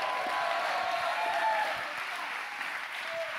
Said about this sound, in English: If that sounds like you, clap your hands one more time and give the Lord a mighty shout. Come on, let God hear that He has an army.